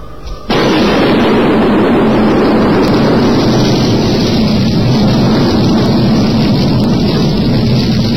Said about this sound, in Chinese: 第二天，巴斯蒂安眼睁睁地看着自己停在车场的汽车被炸得粉碎。